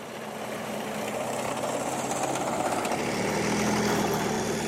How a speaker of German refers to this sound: Er ist um die 1500 PS stark, mehr als 60 Tonnen Gewicht auf zwei dicken Ketten, am Turm eine große Kanone. Der Kampfpanzer Leopard 2, hier beim scharfen Schuss auf dem Übungsplatz Bergen-Hohne.